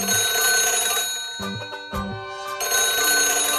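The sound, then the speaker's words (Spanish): A doctor's telephone rings loudly, its bright, sustained electronic tone broken by a few brief pauses, with no voices present. “¡El teléfono!”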